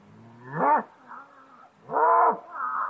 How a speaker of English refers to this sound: What it is, it's a big Black Angus bull. He's out here just letting his presence be known. Some cows and calves along with him.